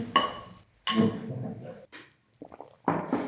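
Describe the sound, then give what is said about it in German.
Beer glasses clink together twice in a toast, each bright strike ringing out and fading, followed by a few softer knocks and a brief rustling clatter. “Ja, bei dem ganzen Gerede über Bier würde ich sagen, wir stoßen mal an.”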